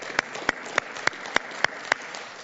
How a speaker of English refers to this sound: And let me tell you, today is the first public worship service of our newest church plant, Harbor Church, which is starting today in Omaha, Nebraska at 10 a.m. And Eastside Community Church, there we go, let's clap it up for Harbor.